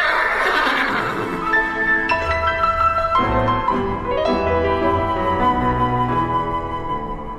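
A horse neighs loudly, a long shrill whinny that wavers and shifts pitch in several quavering bursts over about seven seconds, with no one speaking.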